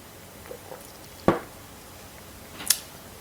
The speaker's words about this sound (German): Sorry, Schluck Wasser.